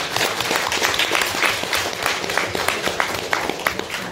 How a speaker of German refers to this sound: Ich denke, es ist ein kleiner Applaus nochmal wert, oder? Applaus für die Damen.